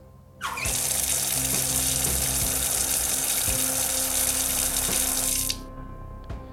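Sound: water pouring or running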